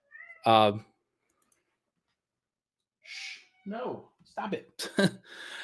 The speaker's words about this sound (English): Sorry, the roommate's cat is now getting vocal.